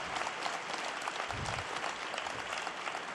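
Steady audience applause in the Vatican for a lay worker retiring today, a dense wash of many hands clapping continuously at an even level, with no voices standing out.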